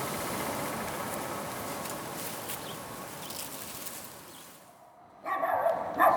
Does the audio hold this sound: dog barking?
yes